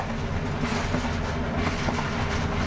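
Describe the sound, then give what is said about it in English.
A train travelling through Tibet past herds of Tibetan antelopes and wild yaks rumbles steadily along the tracks with a dense, continuous roar and faint rhythmic clatter of wheels on rails, heard from on board with no voices. “The train passes herds of rare Tibetan antelopes and shaggy-haired wild yaks.”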